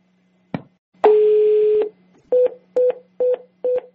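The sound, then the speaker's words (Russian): Telephone tones: a sharp click, then one long steady electronic tone followed by four short, evenly spaced beeps, loud, with no voices. “А вы почему телефон-то выключаете?”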